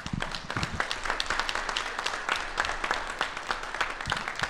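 A crowd applauds steadily, many hands clapping in a dense, continuous patter that fills the space at moderate volume for a few seconds, with no voices standing out above it.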